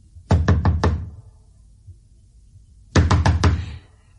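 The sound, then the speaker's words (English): Two quick bursts of four firm, vigorous knocks on a museum door marked private, separated by a couple of seconds of quiet. Each rap is sharp and loud, and no voices are heard. “I knocked vigorously on the door marked private.”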